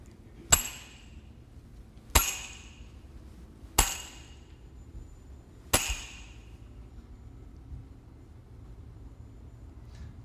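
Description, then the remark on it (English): Four sharp metallic hammer blows on nails ring out at uneven intervals, each a bright clanging strike with a short ringing decay, loud over a quiet low rumble. “no, I'm not going to hit you with a hammer”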